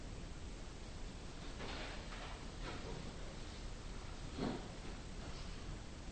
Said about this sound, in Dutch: Regen.